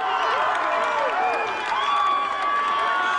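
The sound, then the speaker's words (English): A large outdoor crowd at a protest cheers loudly and continuously as police in riot gear take a knee with the protesters, with overlapping shouts, whoops and rising voices blending into a steady roar for the whole stretch. “People in the crowd yelled that they'd leave if every officer on the scene knelt, and for 2 minutes, police in riot gear joined the protesters, symbolically taking a knee to the cheers of the crowd.”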